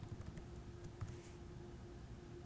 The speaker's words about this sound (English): And again, typing in the password.